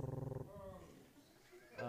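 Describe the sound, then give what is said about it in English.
A man's voice imitates a cat in Baghdad being petted, opening with a quick rhythmic rumbling purr that slides into a drawn-out, growly vocal tone, fairly loud. “Our cats didn't meow. They meow, and when you pet them, they go.”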